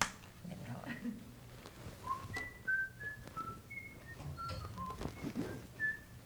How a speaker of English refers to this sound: Whistle a little bit. Maybe I don't know it.